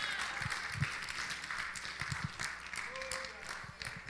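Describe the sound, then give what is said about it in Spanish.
An audience applauds in honor of Jesus, steadily throughout, a dense, sustained wash of many hands clapping at a fairly loud level, with crowd voices blended into the noise. “Ese aplauso es para Él, hazlo fuerte.”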